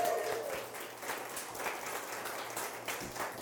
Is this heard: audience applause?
yes